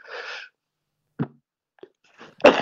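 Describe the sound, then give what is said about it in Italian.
Heavy, harsh coughing in several separate bursts after a breathy rush of air, with the final cough the loudest and roughest. No talking. “Una tossaccia.”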